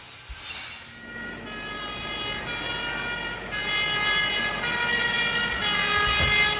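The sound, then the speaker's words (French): A loud fire engine siren blares continuously with steady, wailing tones over a rumbling background, growing slightly louder toward the end, with no one speaking. “Au secours doux, au secours dur, appelez les pompiers doux.”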